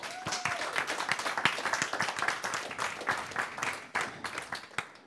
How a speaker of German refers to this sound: und gebe dir einfach mal einen Applaus.